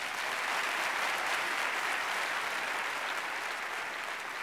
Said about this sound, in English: Well, I know he won't be able to hear it, but let's give Harlow a big hand.